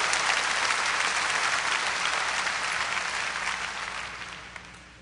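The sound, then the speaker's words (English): A crowd bursts into sustained applause, giving the Lord a hand clap during a sermon, dense hand clapping loud before gradually tapering off toward the end, with no voices standing out. “Someone give the Lord a good hand clap. You're going to applaud.”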